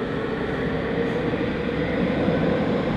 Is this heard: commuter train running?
yes